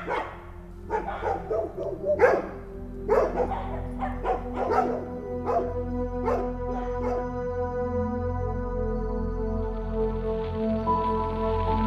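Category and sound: animal, dogs barking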